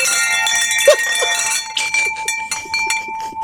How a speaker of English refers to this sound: How about the wind chime for you?